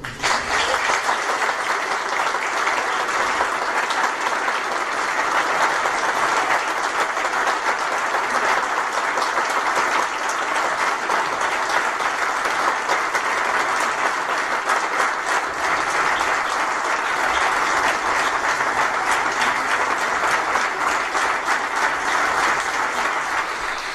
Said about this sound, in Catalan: Com poden comprovar, els aplaudiments varen ser llargs i nombrosos.